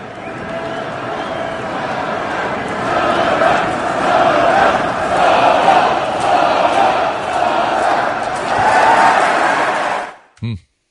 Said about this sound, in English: The problem is that a chant from like 9,000 people doesn't sound so loud.